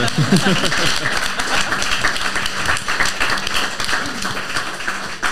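An audience at a panel event at the Weingut Lunnebach winery claps steadily for a panelist in a dense, sustained wash of applause, with faint voices and a brief murmur underneath, holding at a fairly even loudness for several seconds.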